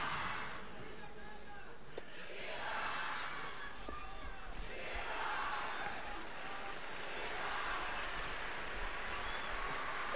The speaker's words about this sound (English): The Holy Father is about to speak, but the people are cheering and yelling. They interrupted him.